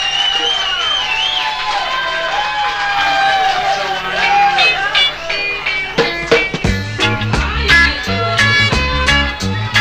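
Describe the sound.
A loud live-concert audience cheers and claps with whoops and voices mixed in as the singer is welcomed on stage, then a bass-heavy backing band kicks in partway through while the cheering continues underneath.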